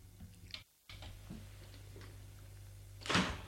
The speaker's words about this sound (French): La porte s'est ouverte.